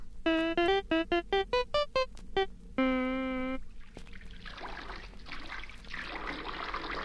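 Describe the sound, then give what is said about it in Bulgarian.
A quick run of bright musical notes and a held tone give way to a steady splashing of water being poured onto the ground in a yard, continuing for several seconds. “Хайде, хайде да вървим на двора, ще ти полея дупчицата на главата.”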